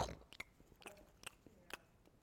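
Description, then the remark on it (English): A crunchy bite followed by several rhythmic, crisp chewing crunches, with short sharp clicks spaced about every half second and no talking. “Crunch.”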